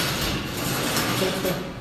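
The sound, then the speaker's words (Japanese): A dense, continuous clatter of many chairs scraping and shifting at once as an audience stands up during a worship service, loud, with no voices standing out. “椅子の音が座るね。”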